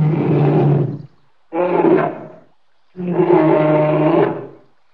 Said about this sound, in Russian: Конечно, медведь. Разве кто-то отважится поспорить с бурым гигантом? Нет таких смельчаков. Не волнуйтесь, медведь миролюбив, можно сказать, добродушен.